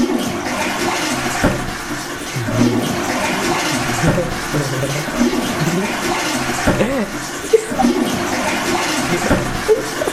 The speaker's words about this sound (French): tu peux laisser le chasse d'eau tranquille?